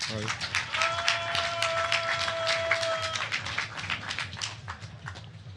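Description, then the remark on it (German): A small crowd applauds with steady, dense, lively clapping throughout. A sustained whistle-like tone rings out early on, and some voices murmur underneath. “Applaus bitte.”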